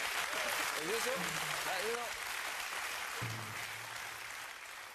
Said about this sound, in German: Wow, Fade Out Applaus. Stolz auf dich.